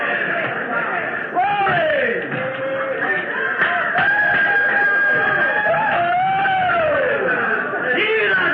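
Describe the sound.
A person's voice imitates a clucking hen with a continuous run of loud, warbling calls that swoop up and down in pitch, over a faint busy background.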